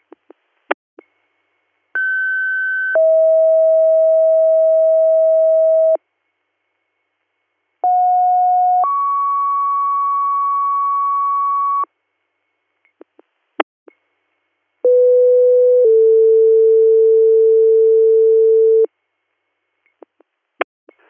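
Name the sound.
radio dispatch alert tones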